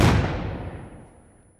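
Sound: grenade explosion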